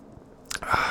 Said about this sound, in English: Just taking a sip there. Yeah, it's got a nice hoppy punch to it.